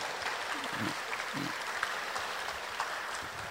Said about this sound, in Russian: пожалуйста, поднимите руки, мы вас просто хотим поприветствовать вот аплодисментами, вот если есть такие, да? Вот где-то кто-то вот хлопает.